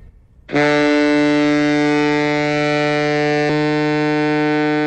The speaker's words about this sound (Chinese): 一声悠长的汽笛声响过后，24名鸣笛礼兵同时吹响一长声两短声水兵笛，在场全体人员行举手礼，以海军特有的礼仪向为捍卫万里海疆英勇牺牲的人民海军英烈致敬。